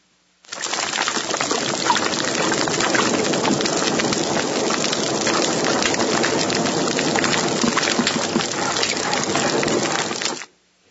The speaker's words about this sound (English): And they also create noise by gnashing their teeth and eating coral. So you can hear this. You'll hear some static and you'll hear some grunts and little things that are occurring here. They're all fish.